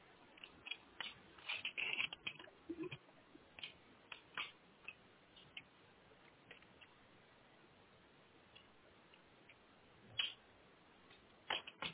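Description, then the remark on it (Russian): A network cable connected to a router is unplugged and plugged back in, making a scattered series of small plastic clicks and soft handling rustles against a quiet background, with no one speaking. “Да, вот все, снова вставил кабель все.”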